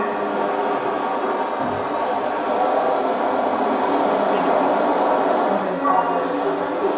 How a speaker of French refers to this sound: Et pour nous déplacer, ben, le mieux, c'était le métro. Métro classique, mais regardez la propreté partout.